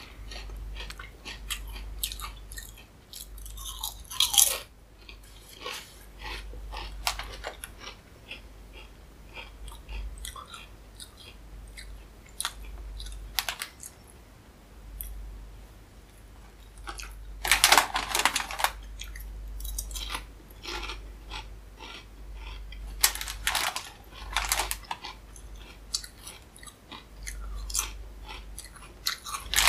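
Close-up, steady chewing of crunchy chips, with irregular bursts of loud crunching over half a minute, some heavier bites standing out, and a low hum underneath. No one speaks.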